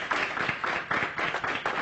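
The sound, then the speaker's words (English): A crowd claps hands together unto God in a steady, rhythmic beat, many overlapping claps forming loud, regular bursts roughly every half second, with no voices heard. “If you're excited, clap those hands unto God.”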